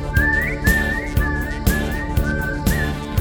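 A person whistles a bright, wavering melody over a steady, rhythmic musical backing with regular percussive hits, the whistle clear and upfront.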